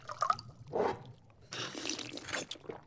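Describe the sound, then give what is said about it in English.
Wine glugs into a glass: a couple of short splashy gurgles, then a steadier, brighter pour with a rising, hollow ring as the glass fills. No one speaks. “I personally feel that any meal can be improved by a glass of wine. Allow me.”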